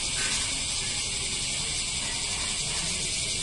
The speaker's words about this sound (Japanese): もしかして日本でノイズミュージックとか好きな人多いのって、このセミのおかげですかね。これ、僕らもこんなもん当たり前なくの風物して思ってるけど、考えてみたら異様な音環境ですよね。